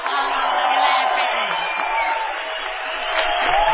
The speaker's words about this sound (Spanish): Nuevos gritos saludarán rajando los tejados la presencia del artista antes llamado ….